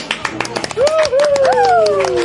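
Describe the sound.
Scattered clapping from a crowd at Board Game Lab near Nakatsu Station in Osaka, followed by loud, sustained cheering and whooping voices that swoop up and down in pitch over the continuing applause.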